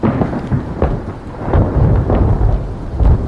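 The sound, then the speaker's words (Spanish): Loud, deep rolling thunder rumbles over a steady hiss of heavy rain after a huge lightning strike, the booms swelling and surging repeatedly with no voices present; the drizzle turns into a downpour with wind and thick drops bouncing on stones. “Antes de que pudiera terminar de decidirme, cayó un relámpago tremendo.”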